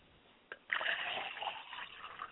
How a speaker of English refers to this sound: If you don't mind, I'm going to go over to the water and pour libation for our mother and father. I pour libation for my father's spirit, and I say. I pour libation for my mother's spirit, and I say.